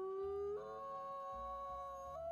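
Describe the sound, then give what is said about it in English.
A Bigfoot howl sound effect: one long, loud wail that holds steady and climbs in pitch in small steps, with a low rumble underneath and no talking. “Well, when you think the Bigfoot sound is coming, you can understand.”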